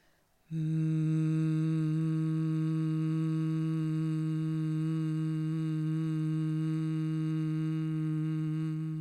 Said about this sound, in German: Also geht in den Bauch rein, nutzt euer gesamtes Lungenvolumen und was wir dann, das ist die Mindestübung zum Warmwerden gemacht haben, ist das Brummen auf unserem Eigenton. Bei mir klingt das so.